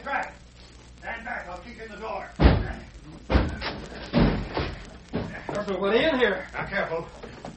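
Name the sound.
door slamming shut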